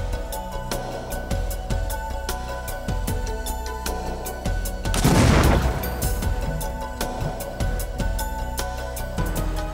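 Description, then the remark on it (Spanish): A final explosive package detonates in a training exercise for students, with a loud, broad blast midway through, surrounded by a rapid series of sharp cracks and pops throughout. No one speaks. “El paquete final está listo para detonar.”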